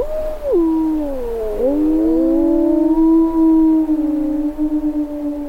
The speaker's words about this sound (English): The sound of wolves in Yellowstone in February of 2014.